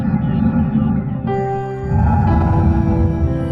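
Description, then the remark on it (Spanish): A rocket launch roar: a loud, steady low rumble that runs throughout, with a brief dip before it swells again and a hum of tonal overtones layered on top. “Por eso siempre hacen un gran sonido mientras despegan.”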